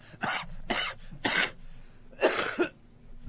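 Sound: heavy coughing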